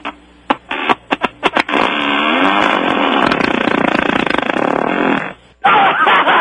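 A few quick sputtering pops give way to one long, loud, raspy fart that drags on for several seconds before cutting off abruptly, with nobody talking.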